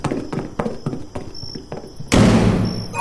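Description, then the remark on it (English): Quick, even footfalls clatter along for about two seconds as Rainbow the unicorn runs into a room, then she shuts the door with a loud, heavy bang that rings on briefly afterward. “And Rainbow the unicorn ran into a room and shut the door.”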